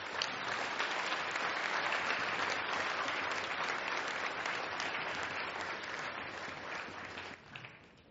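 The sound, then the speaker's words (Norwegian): An audience claps for a discussion panel at the end of the session in dense, sustained applause that holds level for several seconds, then thins out and fades as the clapping tapers off at the end. “men først og fremst en applaus til panelet til slutt.”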